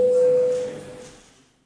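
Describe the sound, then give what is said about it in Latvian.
A parliamentary voting bell sounds as one steady, mid-pitched electronic tone, called as deputies wish to vote on a Foreign Affairs Committee proposal, held for just over half a second before fading away, with no one speaking. “Deputāti vēlas balsot. Lūdzu zvanu.”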